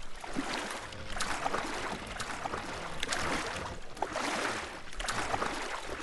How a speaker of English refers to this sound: With the coast clear, Simon, Matt, and Kitty paddle the boat along with their hands while Zeke keeps bailing it out with the cool box. Simon and Kitty paddle on the port side of the boat, while Matt paddles to starboard.